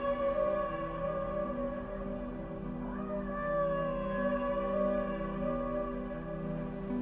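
Whale vocalizations: sustained, layered tonal calls with slowly gliding pitch and a brief rising sweep midway, steady and moderately loud over a low rumbling background, with no voices.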